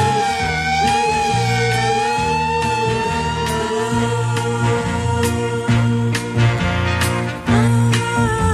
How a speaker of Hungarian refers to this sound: Emlékszel? Utolsó beszélgetésünket egy száguldó mentőautó szirénája szakította félbe. Megijedtem, mint mindig, ha valahol a sziréna felhangzik.